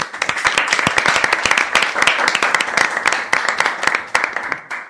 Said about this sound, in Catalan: Avui, des de l'estudi central de les colònies de ràdio amb RAC1, rebem amb un fort aplaudiment els nostres locutors habituals.